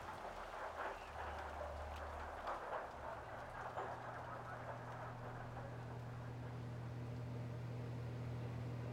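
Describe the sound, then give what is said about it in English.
Heavy rain pours steadily, a dense, continuous hiss that fills the whole clip at an even level, with a low droning hum running underneath. “The University of Washington's campus was almost completely empty at that time of night, but as the rain continued to pour outside,”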